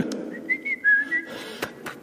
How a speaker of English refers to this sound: And I had a pipe. And I used to whistle.